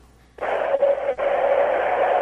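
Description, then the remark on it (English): A BART train roars through an underground tunnel, heard from inside a carpeted car, starting abruptly after a moment of quiet into a loud, steady rushing drone with a whining midrange tone, dipping briefly twice. “Yeah, that's BART. Listen to that. Listen to that tunnel.”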